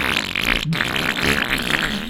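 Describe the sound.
A person blows a continuous buzzing, sputtering raspberry with their lips, imitating a long fart noise as a jingle for the Obscene Green segment, loud for about two seconds with a brief break partway through.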